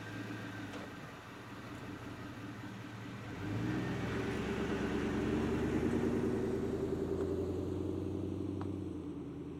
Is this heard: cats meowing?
no